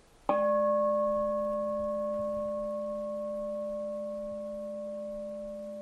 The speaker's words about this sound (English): And then we'll utilize the sound of the bell here, just being mindful of the activity of hearing.